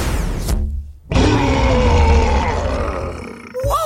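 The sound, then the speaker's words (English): A lion lets out a short, rough growl, falls silent for a moment, then unleashes a long, loud, deep rumbling roar that fades out before another growl begins. “Mateo watches as Isabel shapeshifts into a fierce lion.”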